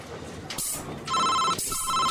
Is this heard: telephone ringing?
yes